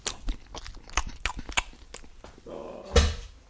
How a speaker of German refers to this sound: Frisst du noch ein Brot? Das ist ja unglaublich.